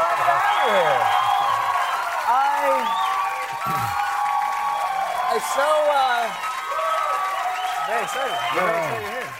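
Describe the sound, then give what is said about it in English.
A studio audience cheers and applauds loudly and continuously as Robert De Niro is welcomed back to the show, with a dense wash of clapping under many rising and falling whoops and shouts that carry on throughout. “By the way, it's very hard for me to picture you cheering like that for anyone.”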